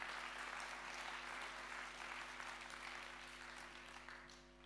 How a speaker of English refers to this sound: Come on, somebody, give God a clap of praise.